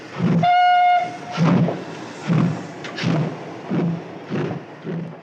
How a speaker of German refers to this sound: Das Abteil, in transparente Dämmerung gehüllt, rollt durch die Nacht. Nur der Pfiff der Lokomotive durchbricht die Ruhe.